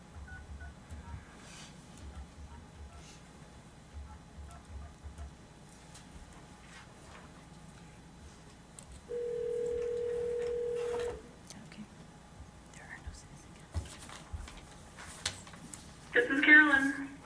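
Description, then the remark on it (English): A steady telephone tone hums for about two seconds, then a short burst of keypad beeps follows near the end as a phone is dialed to bring an absent member into a board meeting by conference call, over faint murmur and shuffling. “So we will get Ms. Weibel on the phone, and then we'll do the Pledge of Allegiance.”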